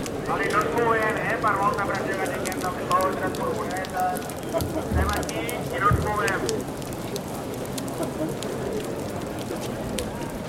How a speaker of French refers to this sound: Six heures, il se met à pleuvoir à Barcelone.